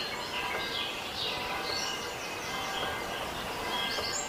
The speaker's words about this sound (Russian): Постарайтесь направить все свое внимание на звук пения птиц. Игнорируйте все остальные звуки вокруг. Вы можете слышать их, но постарайтесь обратить все свое внимание только на звук пения птиц.